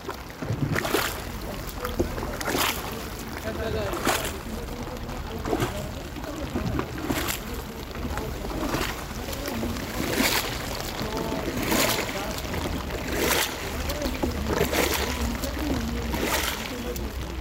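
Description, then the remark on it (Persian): Steady paddle strokes dip and splash through lake water roughly every second and a half as a shikara, a very narrow paddle boat that carries a few people across the lake, glides along, with faint murmuring voices in the background. “شیکارا یه قایقای پارویه که روی سطح دریاچه حرکت میکنه و آدم ها رو جابجا میکنه.”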